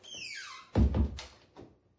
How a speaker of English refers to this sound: Yeah, I'll just close the door behind us.